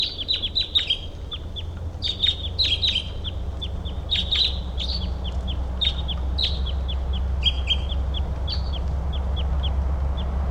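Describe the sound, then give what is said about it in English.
Repeated sharp, high chip notes from crossbills calling in the trees just after about two hours of rain has stopped, in quick clusters every second or two, over a steady low rumble of background noise with no talking. “And now the rain has stopped and the crossbills were calling, and there's a wild bird around here in the trees”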